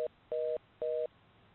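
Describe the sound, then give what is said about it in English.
A rapid electronic beep repeats in short, evenly spaced bursts, a steady two-tone pitch like a busy signal, sounding clearly with no talking over it. “Are you hearing a fast beep?”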